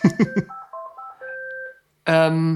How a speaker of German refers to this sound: Jetzt klingelt mein Telefon und wir versuchen das einfach zu ignorieren.